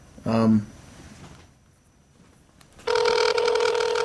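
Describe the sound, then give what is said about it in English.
A short electronic phone tone sounds, then after a quiet gap a loud, buzzy telephone ring starts and holds steady through a speakerphone as a call is dialed. “Luke's over here having a problem with his speed dial”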